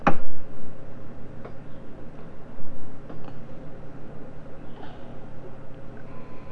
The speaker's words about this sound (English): Oh, there goes the clock. This is a clock. There's the clock.